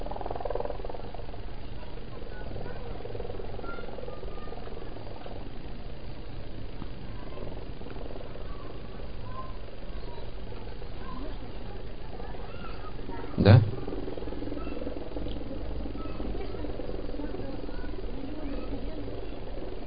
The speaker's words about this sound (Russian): Громче, потому что вертолет приближается, нужно громче говорить, когда он приближается.